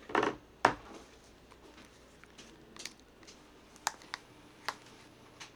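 A printer feeds out a sheet of paper with a short burst of mechanical rustling and a sharp clack, followed by a few scattered clicks and ticks, with no talking.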